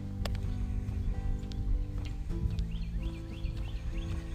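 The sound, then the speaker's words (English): Birds chirp outdoors on a Monday morning (Columbus Day) during a walk, a short run of quick, repeated high notes in the second half, fairly faint over a steady low rumble of wind and footsteps. “Listen to the birds.”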